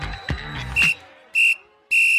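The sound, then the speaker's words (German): Three short, shrill whistle blasts, evenly spaced and loud, after a couple of brief thumps at the start. No one speaks. “Geh pfeif vor, das Bier wird warm.”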